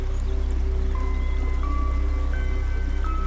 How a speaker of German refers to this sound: Mitten in diesem schönen Wald ist eine Lichtung. Eine Wiese mitten im Wald und durch diese Wiese fließt ein Fluss.